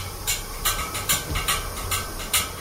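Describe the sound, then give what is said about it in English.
Steam heating pipes in a New York City apartment building hiss in short, bright bursts about twice a second over a steady background hiss and a low rumble, with no voices. “It would usually kind of like begin with this sort of like distant like hiss, like something felt like it was like kind of creeping through the walls.”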